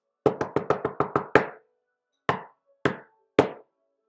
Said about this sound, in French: Et pour la troisième fois, le loup est arrivé à la porte de la petite maison et il a frappé.